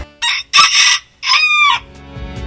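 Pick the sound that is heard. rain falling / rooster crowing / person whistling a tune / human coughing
rooster crowing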